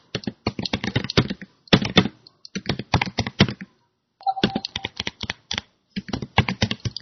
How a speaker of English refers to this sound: She's typing the question.